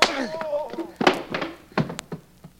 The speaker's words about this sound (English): I only got one good arm and I knocked this guy stiff.